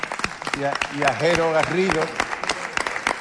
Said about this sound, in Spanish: Un aplauso al coro.